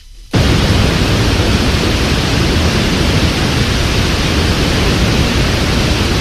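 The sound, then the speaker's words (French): A steady, loud hiss of white noise switches on abruptly after a brief silence and continues unchanged, spread evenly across all pitches, with no voices or other sounds. “Voilà, ça c'est un bruit blanc.”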